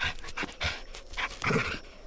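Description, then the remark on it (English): An old dog makes a quick series of short, breathy huffs and pants, about five or six bursts in a steady rhythm, with no one talking. “Did you hear that? I think he knows we're talking about him. Whatever, dude. He's just a scared old dog.”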